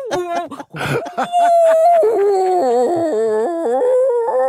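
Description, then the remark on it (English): A woman on a phone call imitates whale song to talk to the whales, with long, sliding, wavering moans that rise and fall in pitch, sustained and fairly loud after a few short breathy sounds at the start. “And she dials and starts making whale sounds, you know, like, ooh, talking to the whales.”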